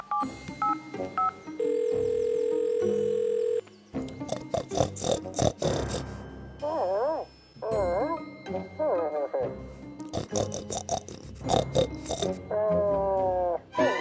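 A steady, loud telephone dial tone hums for about two seconds as someone places a phone call, surrounded by busy clattering, squeaky and squealing noises that come and go in bursts.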